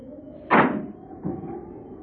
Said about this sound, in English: They sat there in the car perhaps 10 minutes before the car door slammed shut.